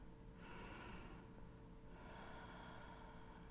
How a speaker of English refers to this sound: Listen to my breathing.